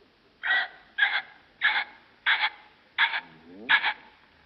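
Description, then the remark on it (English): A human voice imitates a ringneck pheasant with six harsh, raspy double-noted squawks, evenly spaced about half a second apart, fairly loud with no other sounds. “Now, ringneck pheasant. How does a ringneck pheasant sound?”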